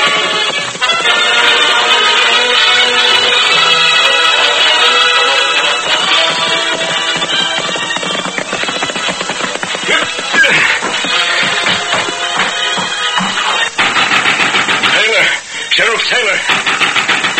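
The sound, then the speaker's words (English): Galloping hoofbeats of a horse drum steadily through the whole stretch, set against a dense, busy backdrop with a thin, old-broadcast tone, staying loud with a brief dip near the end. “What in thunderation's the racket? Horse galloping, pounding on my door?”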